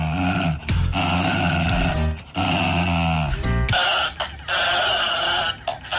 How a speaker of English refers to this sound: This is the husky with the toy, the squeaky toy. There's loads of these going around.